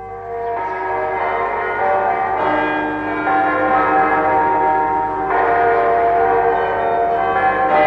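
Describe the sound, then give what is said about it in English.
Several church bells of the city of Glasgow, Scotland ring together on a Sunday morning in a loud, continuous wash, with fresh strikes every few seconds over long, overlapping resonant tones that hang in the air. No voices are heard. “Next morning, all the bells of the city announced the sanctity of the day, Sunday.”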